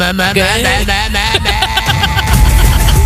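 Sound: rough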